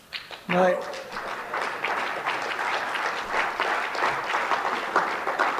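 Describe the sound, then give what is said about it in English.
An audience breaks into applause, a dense, steady wash of many hands clapping that holds at an even, moderately loud level for about five seconds, with a brief vocal sound as it begins. “No mercy applause.”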